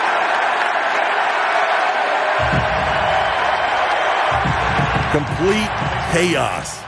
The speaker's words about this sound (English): And then here's what it sounded like as Andre Drummond. Greeting he's going to get now. Andre, hero. Look who's coming back. And let's listen to this crowd.